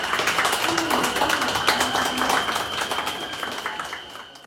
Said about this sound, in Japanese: 列車が出発しました。皆様大きな拍手でお願いします。